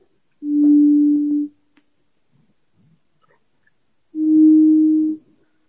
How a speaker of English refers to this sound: So now, as opposed to being a sine wave that just goes on and on and on as long as we want it to, we've made it fade out and we've made it fade in.